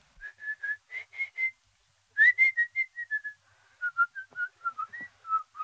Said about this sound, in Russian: Кто хочет свистать, тот может для этого на конюшню идти.